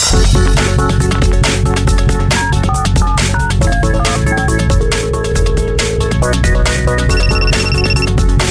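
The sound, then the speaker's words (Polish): A loud, busy electronic ringtone plays continuously, a bright synthesized melody with steady beats and chiming high tones, like an incoming call on a phone, with no voices, as a phone call to a sports correspondent connects. “Wiadomości sportowych i za chwilę specjalne połączenie z naszym nowym korespondentem.”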